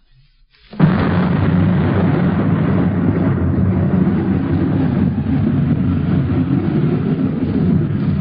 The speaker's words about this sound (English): Wow, look at that thunderstorm coming up.